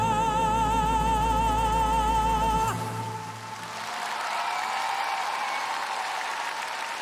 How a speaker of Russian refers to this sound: Спасибо огромное, спасибо. Огромное счастье и удовольствие принимать сегодня участие в этом потрясающем концерте. Спасибо вам за ваши аплодисменты. Спасибо!